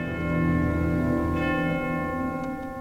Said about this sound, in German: Benjamin Brittens Totenmesse beginnt mit dem letzten Geläut. Über düstere Streicher hinweg tönt die Glocke in die Stille des beginnenden Konzertabends hinein.